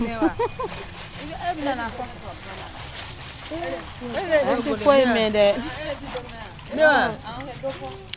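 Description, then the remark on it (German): Water sloshes and splashes in a bucket of water as plastic bags are washed by hand, a steady wet rustling beneath five women chatting as they sit in a circle around the bucket. “Die Plastiktüten wäscht sie von Hand.”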